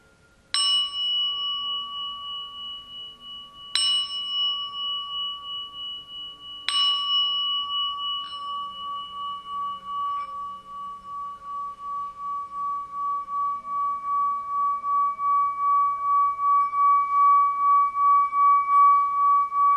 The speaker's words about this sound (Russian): И попробуйте вот просто в единый рисунок ощущения лица, впускать вибрацию чашки.